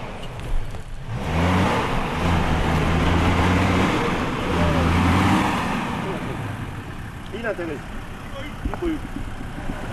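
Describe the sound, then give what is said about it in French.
A stuck car's engine revs hard in two long, strained bursts over a rough, noisy roar as the driver makes a last attempt to free it, then eases off while people talk. “Et là, c'est le dernier essai. Ouais. Je suis sûr qu'il va se mettre dans le champ, parce que là, s'il arrive sur la piste, on est mal.”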